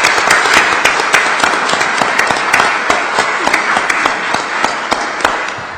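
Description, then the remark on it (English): A crowd at a Supreme Court session applauds steadily for police officers, detectives and the court marshal, many hands clapping at once in a dense, fairly loud patter with a few sharper individual claps standing out, continuing without any voices. “Could we have a round of applause for those folks who've made this possible?”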